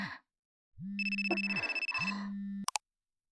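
phone ringing

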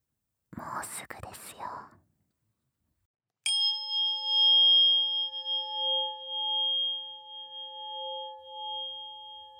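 tuning

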